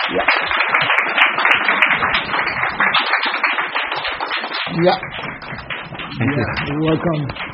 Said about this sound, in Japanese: どうぞ拍手で歓迎してください。